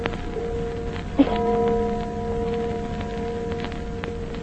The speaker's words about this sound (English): Church bell. Oh, there aren't any churches around here. Oh, sure there is. Little old church down at the other end of the valley.